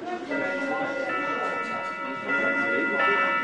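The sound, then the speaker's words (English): A wooden wall clock in a 100-year-old restaurant in Königstein, Saxony, chimes 8 p.m. with resonant, sustained tones, fresh strikes ringing in every second or so over a soft murmur of room noise and faint voices. “In Königstein, the Saxony town where voter support for the NPD was highest, a wooden wall clock in a 100-year-old restaurant chimes 8 p.m.”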